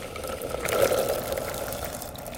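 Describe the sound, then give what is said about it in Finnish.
A litre of rinsed rowanberries tumbling into a pot of boiling water to make rowanberry jelly, a continuous watery rush and sizzle that swells briefly near the middle, with no voices. “Ja nyt mä laitan ne tänne kattilaan sitten kiehumaan noin vartiksi.”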